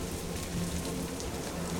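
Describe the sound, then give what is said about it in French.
A steady downpour of rain and hail in a thunderstorm drums continuously on surfaces, a dense, even hiss with a low rumbling undertone throughout. No voices are heard. “Le tonnerre grondait, même la grêle était de la partie.”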